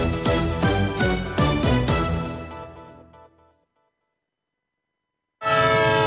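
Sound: train departing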